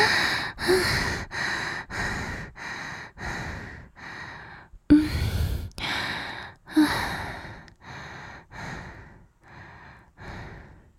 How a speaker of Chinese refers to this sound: 好了好了，大口大口的喘气，逐渐让自己恢复到正常的状态吧。